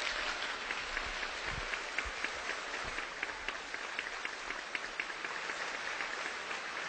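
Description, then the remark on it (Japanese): Sustained audience applause after a talk by Hitori-san fills the whole stretch, a dense steady patter of many hands clapping at an even loudness with no voices over it. “皆様、今一度大きな拍手をお願いいたします。”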